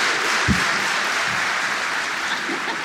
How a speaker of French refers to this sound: On a applaudi les couilles d'un gars.